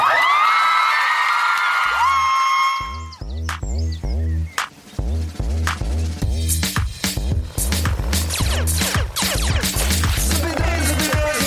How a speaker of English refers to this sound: Please, if we could get some quiet just for 1 second. I'd like just maybe a 10-second round of applause for the old Iron Brew recipe.